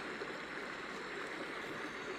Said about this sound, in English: wakes me on some unnumberable day with a steaming mist rising from my clothes, and I hear the babbling brook in the back of my head.